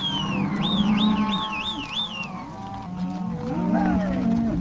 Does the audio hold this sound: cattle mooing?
yes